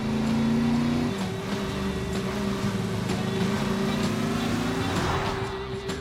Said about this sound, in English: On a suburban street, a Post and Kellogg's truck race. Neck and neck, they zoom down the road.